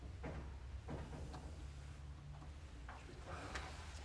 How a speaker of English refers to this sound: Just heard the door, I think.